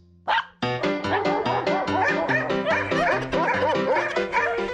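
A dog gives a short, sharp yip, followed by a steady run of loud, pitched barks that keep a fairly even rhythm for several seconds with no voices.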